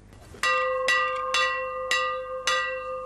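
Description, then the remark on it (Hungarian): A bell is struck six times at a steady, unhurried pace to commemorate the border opening at Sopronpuszta, Hungary, on 19 August 1989. Each loud clang rings on with bright overlapping tones that blend into the next stroke. No one speaks. “A harangszóval az 1989. augusztus 19-én Sopron pusztán történt határnyitásra emlékeztek.”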